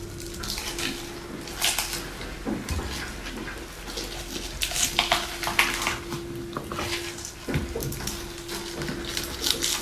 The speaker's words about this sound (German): So, packe ich jetzt den jungen Blattspinat dazu. Der ist auch gewaschen. Bisschen Banane, bisschen so ein Wechsel.